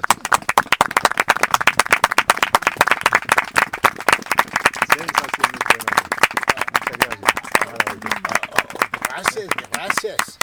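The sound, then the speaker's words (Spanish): An audience claps steadily for about ten seconds, a dense, loud run of sharp hand claps numbering a little over 777, with no pause, the rhythm staying quick and even throughout. “Me llevo, conté un poco más de 777 aplausos.”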